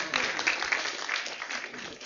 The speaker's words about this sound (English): And a round of applause for all our helpers.